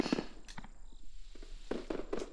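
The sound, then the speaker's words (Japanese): Fireworks burst outside in a quick, irregular run of booms and crackles, several sharp pops scattered over a couple of seconds, moderately loud, with no one speaking. “花火の音が大きいからどんなにあえいでも平気なんだよね。”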